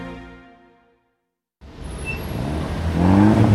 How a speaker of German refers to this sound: An der roten Ampel stehen zwei Autos nebeneinander, ein Opel Corsa und ein Audi. Es ist 23 Uhr. Der Opel Corsa-Fahrer schaut den Audi-Fahrer an und lässt den Motor aufheulen.